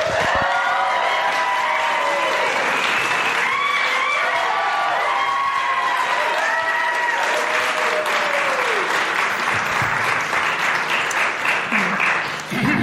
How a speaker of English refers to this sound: Please join me in silencing your phones and giving a round of applause as I welcome to the stage